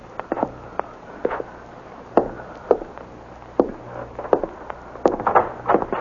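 In an old apartment building, slow, uneven footsteps climb wooden stairs toward the fifth floor, each step a dull knock with soft scuffs between, over a faint steady low hum. No one speaks.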